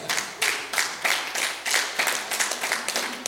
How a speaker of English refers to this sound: That's some pretty good clapping on this side right here. Boy, y'all doing good on this side. This side here needs a little help.